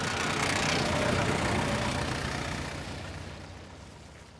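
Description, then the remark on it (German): A truck hauling a professor's private library from the Spree to the Rhine chugs and rattles steadily, a broad rumbling drone that slowly fades as it moves away. No voices, just the laboring motor throughout. “Und das, was sie im Hintergrund hören, dieses Schnaufen und Rasseln, das ist der LKW, der die Privatbibliothek des Professors von der Spree an den Rhein schleppt.”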